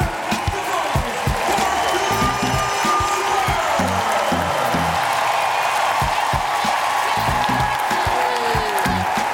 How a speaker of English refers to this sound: So with 2:10 to play, Bird gets subbed out one last time for a standing ovation.